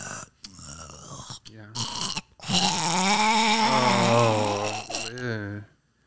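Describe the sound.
A person loudly imitates snoring, with a few short rasping snorts followed by one long, drawn-out, grating snore that trails off into silence.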